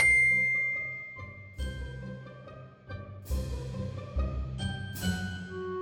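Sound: bell ding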